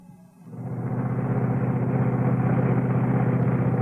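A car engine starts up and settles into a steady idle, its low, throbbing rumble continuing evenly to the end with no voices.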